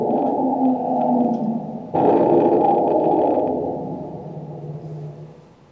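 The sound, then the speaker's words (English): Elephants scream in distress, a loud, continuous chorus of overlapping bellows and wails that surges into a harsher blast midway, then slowly fades. No one speaks. “Now, these are elephants screaming after being shot.”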